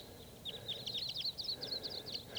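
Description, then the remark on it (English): A huge flock of about 15 to 25 type 2 crossbills moving through and calling, a busy overlapping stream of short, high chips and kips from many birds at once, fairly soft over a low background hiss. “A huge flock of crossbills is around here somewhere. Sounds like type 2.”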